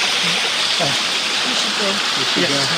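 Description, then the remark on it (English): A steady, full rush of flowing forest stream water at a pool fills the scene without pause, with faint, indistinct voices murmuring underneath the constant hiss. “As we spoke, we passed a bag containing the remains of Jevon's ashes and dropped handsful into the rushing water, which briefly turned a milky white in the pool around which we sat.”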